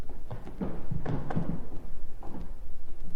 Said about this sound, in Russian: Заприте дверь. Здесь нет замка. Я заставлю креслом.